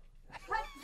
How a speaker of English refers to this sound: Bless you. What's going on? I'm like allergic to something in here. It's all dusty.